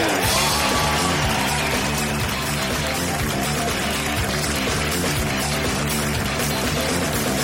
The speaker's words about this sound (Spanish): Que siga el aplauso, más fuerte, porque esto es Papelitos del Público por Hablando Huevadas.